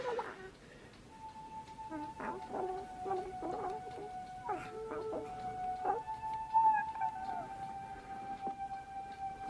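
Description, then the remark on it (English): A new pet dog lets out a long, steady howl that holds one high pitch for several seconds, with short yelps and squawky barks breaking in around it, moderately loud. “It's your new pet. Come on, Barney, be a good dog”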